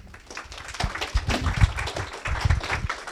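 A crowd applauds with many overlapping hand claps forming a dense, steady patter that rises in loudness after the first second and holds for a few seconds.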